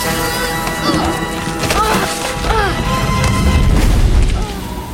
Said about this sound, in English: The obelisk crumbles. The Spider Monkey throws Junie clear as it crashes down.